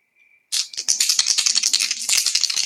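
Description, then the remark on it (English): Dice rattle and clatter in a dense, continuous burst of sharp clicks lasting a couple of seconds, preceded by a faint, brief high tone, and land on a roll of 5. No one speaks. “Yeah, I rolled 5. Yay, the dice.”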